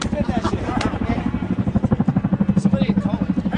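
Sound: helicopter flying overhead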